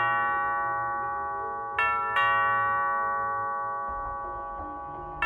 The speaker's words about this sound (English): The doorbell rang 3 times, all in a row, spaced out in perfect 2-second intervals.